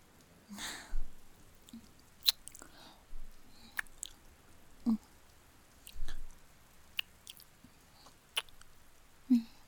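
Soft, wet kissing smacks between two people cuddling in a warm sleeping bag, intimate, come in an irregular series of quick pops and lip sounds with brief quiet pauses between them, and no talking.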